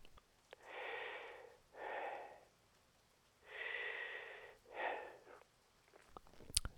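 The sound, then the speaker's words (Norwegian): Heavy breathing heard through a telephone line, four slow, loud breaths in a steady in-and-out rhythm with short pauses between them and no talking, ending on a faint click. “Ja vel, jeg hører at du puster.”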